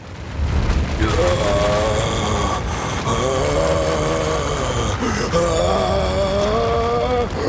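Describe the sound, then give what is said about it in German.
A deep, dull rumbling tremor rising from deep underground rolls on steadily for several seconds, loud, with a droning tonal layer swelling over the low roar. “Kurz darauf dringt aus der Tiefe ein dumpfes Beben.”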